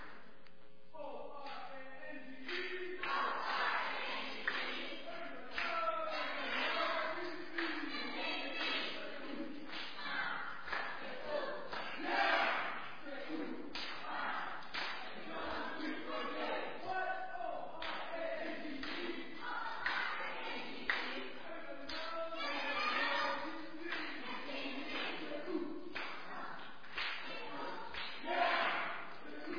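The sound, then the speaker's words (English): The orange team cheering and yelling together for about half a minute, a loud, sustained mass of shouting voices with scattered claps and thumps running throughout. “Why don't we start with a cheer from the orange team?”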